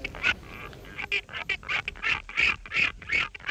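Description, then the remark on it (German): A rapid series of nasal, honking albatross chattering calls, fairly loud, repeating in quick irregular bursts with brief gaps, no voices present. “Schnatter, Schnatter, hoffentlich noch lange.”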